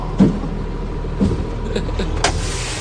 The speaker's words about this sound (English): He then smashed the cement truck, breaking the headlights.